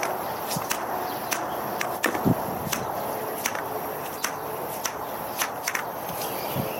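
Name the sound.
footsteps walking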